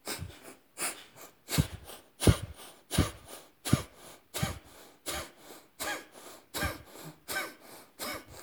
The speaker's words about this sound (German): Komm, wir machen heute noch 10 Atmungen, Feueratmungen da rein.